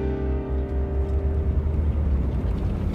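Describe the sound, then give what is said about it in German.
A police patrol car's engine rumbles steadily, a deep continuous drone with a faint humming tone above it, holding level for the whole stretch with no voices. “Wir schoben sie alle in den Wagen und ich kletterte in den Streifenwagen”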